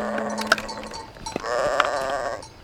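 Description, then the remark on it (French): Sheep bleat in a wavering, nasal chorus, with several overlapping calls rising and falling over a few seconds, as they are led to graze on the mountain of Horeb on a spring morning. No one speaks. “Par un beau matin de printemps, Moïse mène paître ses moutons dans la montagne de l'Horeb.”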